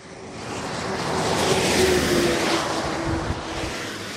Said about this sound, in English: Cars slowing to 30 miles an hour as they enter the little village of Perrois-les-Gombrés, north of Paris. A speed camera surveys each one with a glassy eye, ready to photograph offenders in a flash of white light.